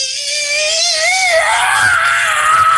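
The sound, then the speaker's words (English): A person vocally imitates the scream a barn owl makes when cornered: one sustained, harsh, hissing shriek with a wavering pitch, loud, lasting a few seconds with no talking. “There's also something like a barn owl. If you're a corner of a barn owl, now it could hurt you with its talons, but it's not really menacing.”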